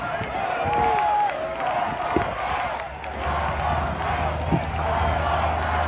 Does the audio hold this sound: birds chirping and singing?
no